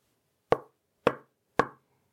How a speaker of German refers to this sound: Was war das? Irgendetwas klopft an ihre Wand.